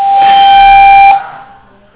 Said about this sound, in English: Maybe it's a phone somewhere.